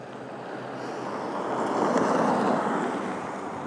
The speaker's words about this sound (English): Just wait for this car to go here.